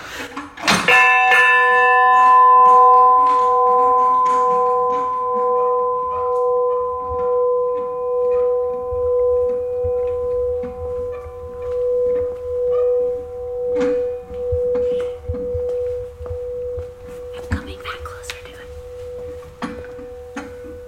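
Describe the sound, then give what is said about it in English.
A big bell is struck once as a person grabs its clapper by hand and swings it, then rings on with a deep, pulsing hum that slowly fades over about twenty seconds, loud, with the clapper heard moving back and forth. “Okay, I'm going to grab this clapper here, and I'm just going to swing it.”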